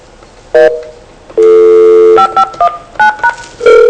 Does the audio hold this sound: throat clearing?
no